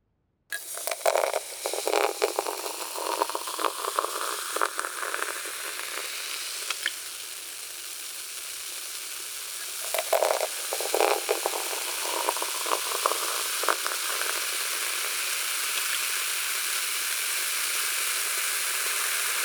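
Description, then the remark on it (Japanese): Strongly carbonated water is poured close by into a tumbler set near the listener's ears, with a bright pouring splash, then fizzes steadily in a dense, crackling hiss of tiny popping bubbles that continues evenly to the end, with no one talking. “では炭酸水注がせていただきますね。”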